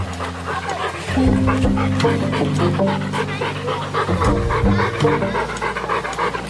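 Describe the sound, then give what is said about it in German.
A dog pants rapidly and steadily at a dog meadow in the Nordpark in Erfurt, the quick breaths repeating in an even rhythm over a low, droning background hum. “Hunde wissen nicht, wo die Hundewiese offiziell aufhört.”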